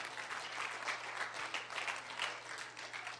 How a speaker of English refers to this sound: Clap your hands and tell God thank you for that.